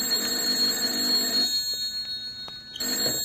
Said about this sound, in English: Then my phone shrilled.